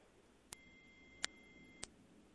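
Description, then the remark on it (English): A single piercing 8,000 hertz hearing test tone holds steady for over a second, with faint clicks as it starts, midway through, and as it cuts off. No voices. “So here's the 8,000 hertz tone.”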